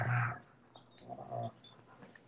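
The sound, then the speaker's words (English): A female German Shepherd, being needy, whines for attention in a couple of short, strained vocal bursts, a brief pause between them, not loud, with no one talking. “Speaking of German Shepherds, mine is being awfully needy right now. I don't know if you can hear her.”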